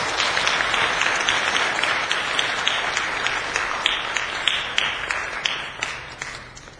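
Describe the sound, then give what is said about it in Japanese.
A crowd applauds steadily, many hands clapping in a dense, sustained patter that holds fairly loud for several seconds before thinning out toward the end, with a few sharper individual claps standing out. “今一度拍手を。”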